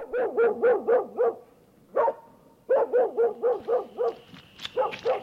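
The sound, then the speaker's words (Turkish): A mangy dog barks in front of a house in Tabriz in quick, repeated bursts, a run of five or six sharp barks, a single bark, then another rapid volley, loud with a few higher yips near the end. “Bu uyuz köpekte, koca Tebriz'de hiç yer yokmuş gibi hep benim evin önünü bulur.”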